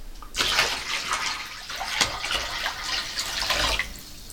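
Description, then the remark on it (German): Water pours and splashes for about four seconds, a steady rushing slosh with one sharper splash midway, as feet are lowered into the water, in a working apartment in Berlin-Kreuzberg. No voices. “So, dann darfst du doch jetzt mal mit deinen Füßen ins Wasser.”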